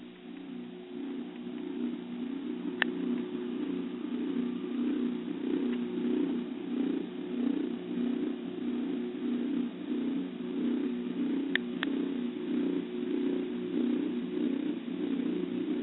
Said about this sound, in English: And this was the music I used, and boy, does it have tones in it that you start to hear after a while. So I want you guys to listen very closely, and I'm going to play you a little piece of it so you can hear that.